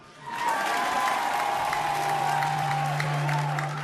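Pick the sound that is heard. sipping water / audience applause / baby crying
audience applause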